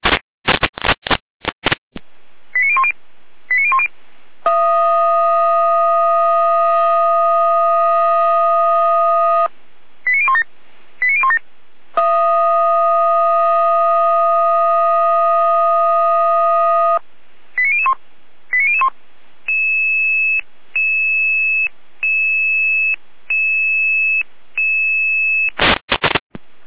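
A sequence of fire brigade alarm tones alerting crews to a storm call-out for a fallen-tree road blockage on the road between Batzdorf and Quittelsdorf: sharp electronic chirps, two long sustained multi-pitched tones, then a run of short, evenly spaced beeps. It is loud and clear, with no voices.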